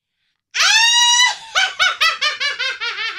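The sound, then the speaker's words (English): A voice imitates a witch's cackle: a loud, high-pitched drawn-out shriek, then a quick run of about eight sharp, rhythmic bursts of shrill laughter, with no other talking. A sound level meter reads about 91 dB averaged over a minute, with an instant peak of 106 dB. “I'm going to do my witch cackle.”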